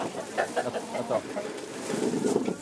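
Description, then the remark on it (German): Several chickens cluck in short, repeated bursts, with a busier burst of overlapping clucks toward the end and a steady murmur of background noise. “Sie gehört zu den auserwählten 9 Hühnerhaltern.”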